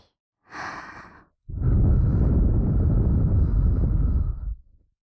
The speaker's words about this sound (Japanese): ここで吐息、 吹きかけ攻撃。